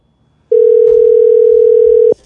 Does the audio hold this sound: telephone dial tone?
yes